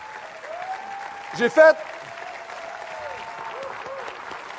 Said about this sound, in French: C'est pas ma prédication qui est longue, c'est vos applaudissements.